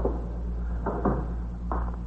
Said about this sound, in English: Shut the door, will you,